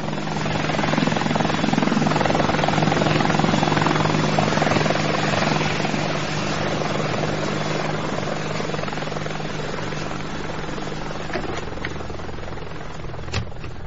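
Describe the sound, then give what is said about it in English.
A helicopter drones steadily and loudly, its rotor thrum and engine whine filling the whole stretch with a constant, dense roar that eases only slightly toward the end. “You're on another chopper, I'm afraid.”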